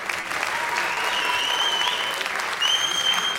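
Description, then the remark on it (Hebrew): Sustained applause from an audience welcoming Rabbi Yitzhak Saban, head of the Standard organization, at the Halacha Lema'aseh quiz in Europe: a dense, steady wash of many hands clapping at an even loudness for several seconds, with a faint high tone threading through it. “הלא הוא מזכה הרבים, ראש ארגון סטנדר, הרב יצחק סבן, מחיאות כפיים, ברוך הבא.”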